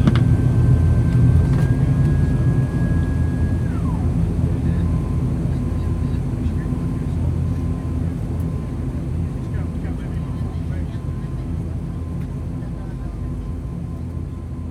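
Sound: airplane cabin engine noise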